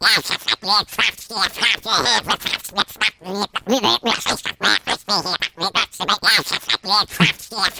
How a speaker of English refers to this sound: Speaking your demonic language that sounds like Donald Duck.